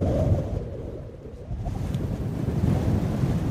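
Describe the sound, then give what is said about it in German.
Strong wind roars steadily across open dunes near Bedonti in the far south of Madagascar, blowing sand off the dunes: a dense low rumble with a faint hiss of blown sand, gusting slightly stronger toward the end, with no voices. “Der Wind bläst den Sand von den Dünen.”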